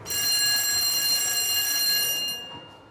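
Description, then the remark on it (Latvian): The school bell at Ērgļi secondary school rings for the start of a lesson, loudly and continuously with a bright, shrill metallic buzz for a little over two seconds, then stops abruptly, leaving a faint background hum. “Esmu ieradusies Ērgļu vidusskolā pāris minūtes pirms noskan zvans uz stundu.”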